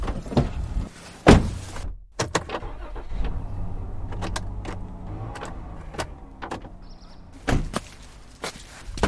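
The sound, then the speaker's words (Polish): A door is opened with a loud clunk and latch clicks, followed by a series of light knocks and shuffling steps, then another sharp thud near the end; no one speaks. “Już otwarte drzwi? Otwarte.”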